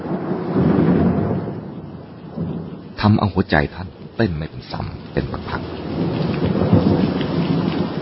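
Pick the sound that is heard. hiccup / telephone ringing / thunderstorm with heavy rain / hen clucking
thunderstorm with heavy rain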